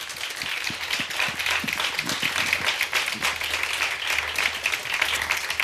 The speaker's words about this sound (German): Dafür wünsche ich mir zum einen ganz, ganz herzlichen Applaus für Lasermax.